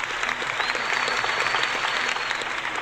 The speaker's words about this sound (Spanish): Este aplauso es para ustedes.